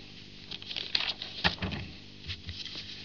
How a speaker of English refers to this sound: Here's your old CCH seconds. Rattledy-bang of paper.